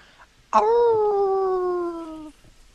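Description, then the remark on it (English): A person imitates a wolf howl: one loud, sustained vocal tone lasting under two seconds, its pitch sliding slowly downward before cutting off, with no other sounds around it. “That was your wolf impersonation.”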